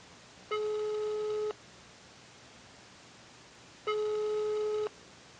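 A telephone ringing tone heard while calling: two steady, buzzy beeps about a second long each, separated by a pause of a couple of seconds, over a faint background hiss with no talking.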